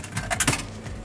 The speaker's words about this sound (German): Ich stecke hier gerade eine Münze in einen Eisautomaten rein.